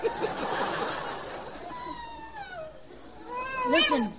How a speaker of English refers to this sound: Listen, them's wolves howling, Deadeye. Yeah, we can't be so far from Hollywood after all.